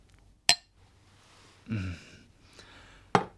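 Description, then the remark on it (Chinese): Glasses clink together in a toast, two bright, sharp chimes nearly three seconds apart, with a short muffled rustle between them and otherwise quiet. “嚟，我哋饮杯吓。 好，干杯。”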